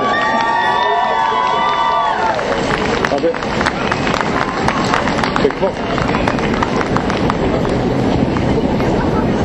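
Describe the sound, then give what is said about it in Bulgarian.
A crowd at an election campaign event bursts into loud, sustained applause and cheering to welcome Meglena Kuneva, leader of the Reformers' list: dense clapping mixed with shouts. A brief musical or tonal sting fades out in the opening seconds as the clapping swells. “Сега искат да посрещнете с аплодисменти водача на листата на реформаторите Миглена Кунева.”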